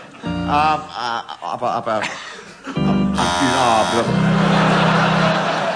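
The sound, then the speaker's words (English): A man speaks in an animated voice, then a loud, harsh game show buzzer cuts in as a panellist's challenge for hesitation and drones steadily for nearly two seconds until the end. “Nobody ever buzzes Derek Nimmo for that.”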